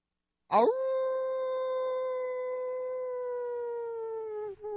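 A single long canine howl rises quickly after a moment of silence, then holds a steady, sustained tone for several seconds with a slight wavering dip near the end. Loud, no talking.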